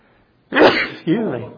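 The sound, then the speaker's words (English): A single loud, amplified sneeze: a sharp breathy burst followed half a second later by a voiced, throaty release, with near silence before it. “That was an amplified sneeze.”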